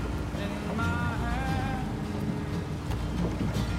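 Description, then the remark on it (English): A small motorboat skiff putters steadily across a calm ocean as someone operates its motor, the low engine drone constant beneath a soft wash of waves, with a brief high warbling tone early on. “The skiff travels on the calm ocean. Peter operates the motor.”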